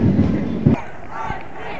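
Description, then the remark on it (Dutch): A marching procession crowd at the Weteringscircuit, as it starts to rain, shouts together, many voices merging into a loud, rough roar with a couple of stronger bursts of yelling rising above the steady din. “Nou, ik weet niet of je het hoort, maar iedereen schreeuwt nooit meer.”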